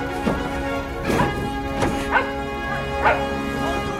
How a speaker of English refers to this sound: Outside, Connor and the crew search for the source of the barking.